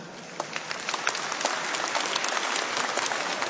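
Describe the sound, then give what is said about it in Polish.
A large audience claps steadily for the church schola (choir) before Mass, a dense continuous wash of hand claps at moderate loudness with no voices standing out. “Dlatego bardzo prosimy naszą dzielną scholę, dla której także brawa ogromne.”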